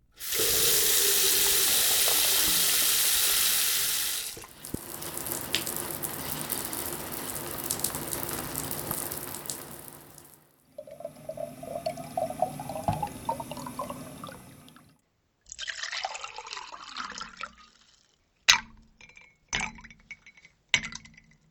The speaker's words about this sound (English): Every day, Virginians and people throughout the United States depend on sounds like the ones you just heard. A faucet, a shower, filling a water bottle at a fountain, and water poured into a drinking glass.